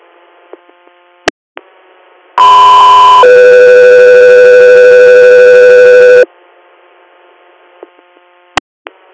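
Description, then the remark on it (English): A loud two-tone radio dispatch alert: a steady high tone for about a second, then a lower sustained tone for several seconds, bracketed by brief radio squelch clicks and faint static. “Cut through here, standby for tones.”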